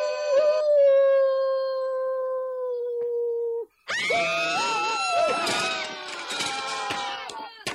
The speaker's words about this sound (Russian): Совсем волку стал не втерпел. А теперь точно спою. Ну и запел. Завыл, вернее.